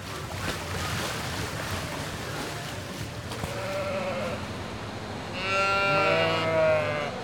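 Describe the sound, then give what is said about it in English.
Oxford sheep bleat twice over a steady wash of background noise at the Illinois State Fair, where they are being readied for the show ring: a shorter call first, then a louder, longer, quavering bleat. “I am getting our Oxford sheep ready to go to the show ring here in this afternoon, probably about an hour or so.”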